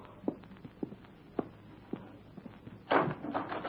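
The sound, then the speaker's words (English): A few soft, evenly spaced footsteps approach, then a door is opened with a fuller rustling clatter near the end. Quiet, with no talking. “Who is it? Open the door, child.”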